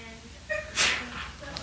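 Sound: sneeze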